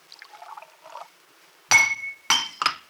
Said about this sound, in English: I don't know. It's strange. The glass, it slipped from my hand. For a moment, I had no feeling in my fingers.